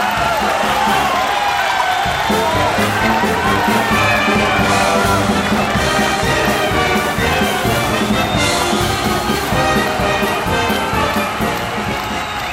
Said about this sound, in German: Und der Applaus hat gar nicht mehr enden.